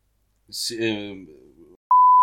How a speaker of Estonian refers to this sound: Nüüd sa ei pea seda nime piiksutama.